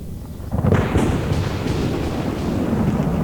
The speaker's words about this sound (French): Une terrible tempête éclate aussitôt,